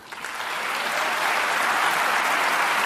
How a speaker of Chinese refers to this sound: 阿巴斯受到了在场数千外国政要和记者的鼓掌欢迎，他们在巴黎联合国教科文组织的总部庆祝这个机构的最新成员加入。